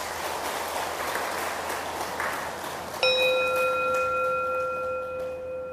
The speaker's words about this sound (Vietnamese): Nếu quý vị cam kết là giúp cho con em của mình đó, đạt được ba loại sức khỏe nêu trên đó, thì hãy cho một tràng vỗ tay thật lớn.